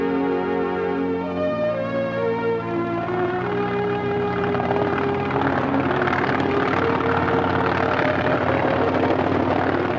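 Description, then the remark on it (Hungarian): A crop-spraying helicopter drones steadily overhead, its rotor and engine producing a loud, continuous whine with shifting harmonic tones that rise and fall slightly as it flies past; no voices. “A helikopter a növényvédelem legfiatalabb eszköze.”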